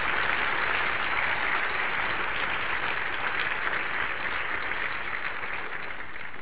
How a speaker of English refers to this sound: Well, thanks, Andy. A round of applause for Andy.